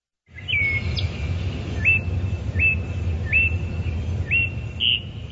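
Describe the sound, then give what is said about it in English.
A bird sings a repeated series of clear, rising whistled notes, about six phrases in steady rhythm, over a constant low rumble of background noise. No one speaks. “So how did that bird song spark your creativity for this album?”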